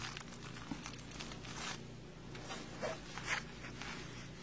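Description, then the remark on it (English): Quiet crinkling and rustling of stiff wax-like paper as fabric is pinned down onto it, with small scratchy handling noises and faint clicks, continuous and unhurried, with no voices. “And I'll just pin the fabric down to this paper. It's kind of like wax paper.”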